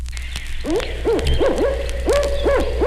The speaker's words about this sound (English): A typical call of the barred owl contains 8 notes, translated as "Who cooks for you? Who cooks for you?" A few calls of these 2 barred owls in Georgia end with "Who cooks for you all?"